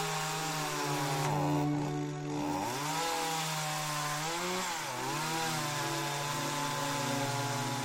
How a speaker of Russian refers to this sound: Моя пила завелась с первого же рывка, и я принялся за работу.